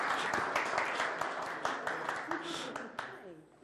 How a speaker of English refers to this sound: I can't clap, so somebody's going to have to.